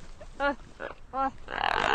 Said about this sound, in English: Now, let's listen to the gelada monkey again.